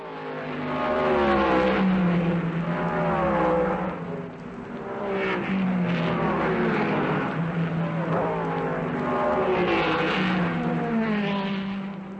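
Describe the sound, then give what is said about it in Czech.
Racing go-karts in the Czech Republic, reaching up to 250 km/h and accelerating to 100 km/h in under 3 seconds. Their engines whine loudly and continuously, the high buzzing pitch repeatedly climbing and dropping as they accelerate and brake every couple of seconds, with no talking. “Tak jezdí motokároví závodníci a jejich umění je v Česku stále populárnější.”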